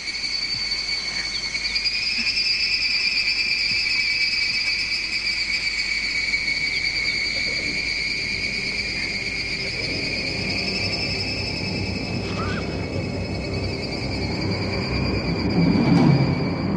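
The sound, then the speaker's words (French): Harsh, strident cicada drone from Takemitsu's film sound, an original cicada recording transformed into strident, aggressive material to reflect the character Hidetora's faltering reason, with two steady high-pitched bands sustained loudly throughout and a rougher low rumble building toward the end. “ces sons de cigales reflètent alors la raison qui vacille du pauvre Hidetora et sa perte des réalités sonores”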